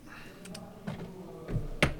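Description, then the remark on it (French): A pen scratches across paper in a few short, irregular strokes with soft scraping bursts, the last one a bit louder, against a quiet background. “Avec un stylo qui marche, ça va beaucoup mieux.”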